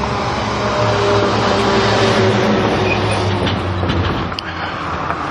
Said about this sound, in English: The clue there was a trash truck going by, and I'm thinking, is it Thursday? No, it's only Tuesday.